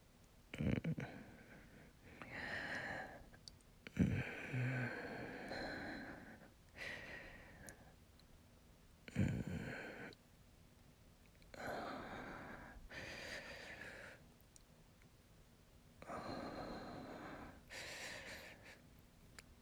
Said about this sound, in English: Go, keep breathing.